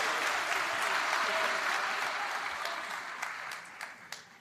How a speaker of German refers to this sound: Freunde, ja, und ich will einen kräftigen Applaus haben.